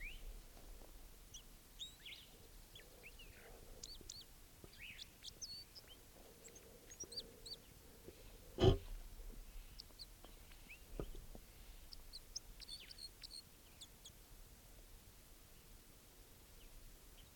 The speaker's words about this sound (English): There's a male, of course, I think a male, still sitting here by himself. Recording that bird now.